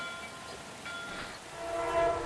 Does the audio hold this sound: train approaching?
yes